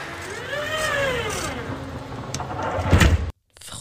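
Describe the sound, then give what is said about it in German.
A tram door closing: a whining motor tone glides up and then down over a low rumble, ending in a loud clattering thump as the door shuts, followed by a brief silence. “Das ist tatsächlich eine Straßenbahntür im Vorgastraum.”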